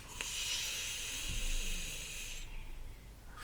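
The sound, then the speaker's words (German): A long, deep breath drawn in steadily for about two and a half seconds, airy, as part of a relaxation breathing exercise, then it stops, leaving near silence with no one speaking. “Und jetzt atmen wir ganz tief ein.”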